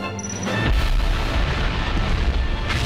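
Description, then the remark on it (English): A deep, roaring rocket launch blast erupts after a brief lead-in tone, sustaining a loud, rumbling thunder of fiery explosions from the launch tubes as the ship slowly rises and climbs, with no voices. “Great explosions of fire burst out of the launch tubes, surrounding the ship in flames as it slowly rises upwards.”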